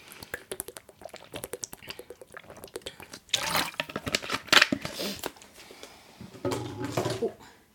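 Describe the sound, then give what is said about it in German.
A few quick clicks and taps, then someone takes a sip of water: soft liquid slurps and swallowing sounds in short bursts, moderately loud, with no talking. “So, erstmal einen Schluck auf euch.”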